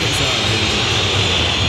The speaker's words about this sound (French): Et le ballon revient sur Neymar. Et écoutez les sifflets du parc.